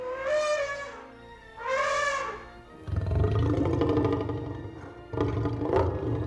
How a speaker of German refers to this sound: Ich weiß zum Beispiel, dass es bei dem T-Rex in Jurassic Park Laute von Elefanten und von Löwen sind, die irgendwie kombiniert worden sind.